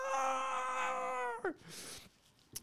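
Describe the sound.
A voice imitates a scream that a neighbour hears in the middle of the night: a loud, sustained high-pitched wail held steady for over a second, then breaking into a quick downward drop, followed by brief breathy noise.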